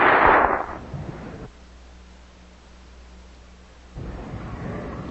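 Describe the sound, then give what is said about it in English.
A burst of audience applause for a speaker fades out, leaving a low steady hum for a couple of seconds before clapping rises again, somewhat softer, toward the end. “I wanted to make sure that you applauded me somewhat longer than you did my junior colleague.”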